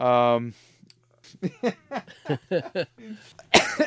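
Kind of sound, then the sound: human body sound, coughing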